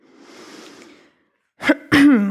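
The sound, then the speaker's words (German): A long, soft, ocean-like ujjayi breath hisses steadily for about a second during a yoga practice, then after a brief silence two short, louder voiced exhalations follow close together. “Öffnet dann die Augen und beginnt im Ujjayi-Atem zu atmen.”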